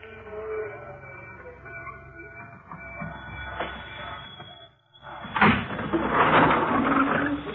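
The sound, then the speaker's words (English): A train rumbles steadily with a clattering, mechanical drone, dips briefly into near quiet, then returns louder with a hissing, grinding wash of noise as it slows. “The train's slowing down.”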